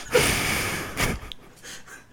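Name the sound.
breathing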